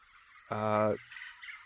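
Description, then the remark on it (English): A single loud, harsh bird call rings out for about half a second, a buzzy, honking cry that stops abruptly and leaves a faint hiss behind. “Maybe it was a bird.”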